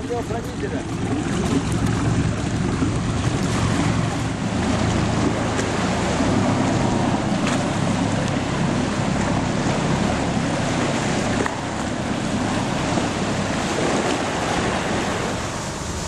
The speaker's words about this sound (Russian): Беспокойные воды Эгейского моря очень часто подвергаются штормовым воздействиям, особенно в зимнее время.